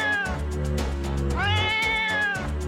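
Real cat meows stitched into a musical sequence, pitched and timed over a steady rhythmic beat and bass so the cats seem to sing a melody, loud and up close.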